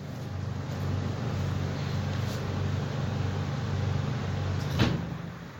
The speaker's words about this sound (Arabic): ها صوت المروحة قوي هسه، دقيقة.